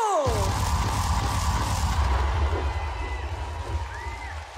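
A crowd breaks into loud, sustained applause with some cheering mixed in, a dense wash of clapping that holds steady and then slowly fades toward the end.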